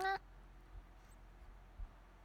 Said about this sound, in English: Hey, kitty. Want to say hi? Say hi.